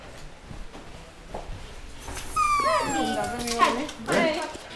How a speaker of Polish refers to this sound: O, masz go? Ależ pies.